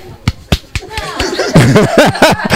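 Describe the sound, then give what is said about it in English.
Three sharp hand slaps land on a person in quick succession, each a crisp smack against skin, followed by loud vocal reactions and laughter-like voices. “anytime I slap you, my hand clap.”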